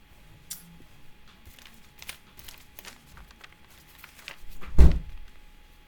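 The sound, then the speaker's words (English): Light clicks and handling sounds, then one solid thunk as water bottles are set down on a surface, with quiet room noise around it. “Wait, yeah, let's put these water bottles. Over there. Just leave them there.”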